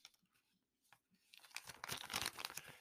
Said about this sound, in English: Y'all hear that paper crumbling?